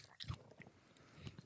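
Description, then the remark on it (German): Teeth bite into soft, sugary candy that smells of medicine, biting off with the back teeth close to the microphone, with two muffled crunches followed by quiet, wet chewing. A faint whisper or murmur sits underneath. “Vielleicht war das Geräusch auch gerade mal Zähne”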